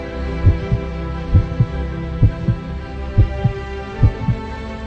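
A steady heartbeat thumps in low, paired double beats, lub-dub, repeating about five times over a constant low hum, with no voices.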